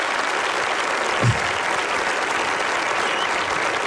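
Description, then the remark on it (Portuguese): Steady, dense applause from an audience for VJ Jorge Farinha, who projects stars and constellations live, fills the whole stretch, a continuous wash of many hands clapping at even loudness with no voices rising above it. “Palmas para ele.”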